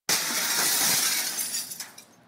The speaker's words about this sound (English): Next, we took a hatchet to some old window panes.